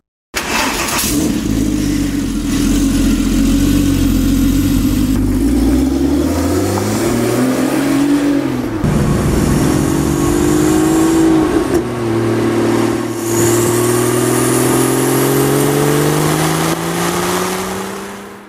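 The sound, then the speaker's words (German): A CTR sports car engine roars, revving hard and accelerating, its pitch climbing and dropping through several gear changes, loud and continuous with no talking. “Und wie immer hier bei Motorikonen gibt es jetzt auch vom CTR was auf die Ohren.”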